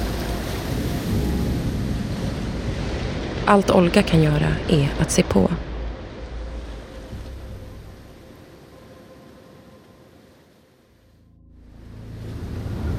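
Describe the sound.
Steady ocean waves wash and rush close by, briefly under a calm voice speaking, then fade to a low hush before swelling back up again.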